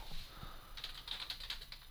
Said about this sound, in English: I was already typing that.